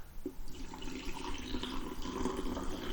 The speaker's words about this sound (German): Das Geräusch ist einfach nur mega geil. Das, also, einen frischen Kaffee einschenken, so eine feine Sache.